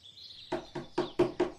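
Five loud, evenly spaced knocks on a wooden door, growing slightly stronger, as a gazelle knocks hard on the door of the donkey's house, with a faint high chirping tone in the background at the start.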